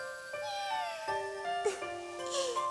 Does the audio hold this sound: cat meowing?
yes